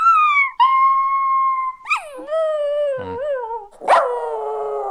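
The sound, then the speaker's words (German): A person hums a favourite TV series or film theme melody for others to guess: a high, wavering melody of a few long sustained notes that glide between pitches, almost howl-like, with brief breathy breaks between phrases and no talking. “kannst du uns mal deine Lieblingsmelodie einer Serie oder von einem Film vorsummen und wir müssen sie dann erraten?”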